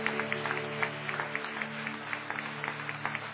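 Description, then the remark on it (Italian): An audience applauding the Lord together during a church service, a dense, steady wash of many hands clapping that holds for several seconds, with a faint low hum running underneath and no voices. “Facciamo un forte applauso al Signore, grazie Gesù, alleluia.”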